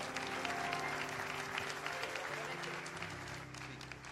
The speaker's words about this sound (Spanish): Se dio, todo se hace en el tiempo de Dios, y qué mejor que recibirlo con un fuerte aplauso para la gloria del Señor